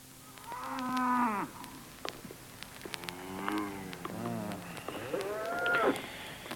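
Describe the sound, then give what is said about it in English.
Cattle from a herd of about 60 head low in three long, drawn-out moos, one after another, with the middle call deeper and wavering, over a quiet outdoor background with no voices. “Coming up to 60 head of cattle, all told.”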